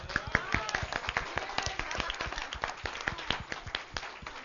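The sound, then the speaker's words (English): An audience applauds for God at the start of a service, after a reading of Psalm 66, scattered hand claps overlapping in an uneven, fairly thin patter that carries on steadily without building, with some faint voices mixed in beneath the clapping. “All together now, applause for God.”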